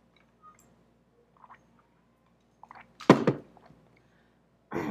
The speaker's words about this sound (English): I'll take a drink of water to clear my throat.